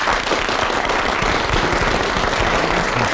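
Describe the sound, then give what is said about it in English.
An audience claps in a steady, dense burst of applause lasting a few seconds, voting on whether Derek Nimmo was justified in not being challenged, with many overlapping hand claps at an even loudness and no voices over it. “Do you think that Derek Nimmo was justified in not being challenged? Would you please clap?”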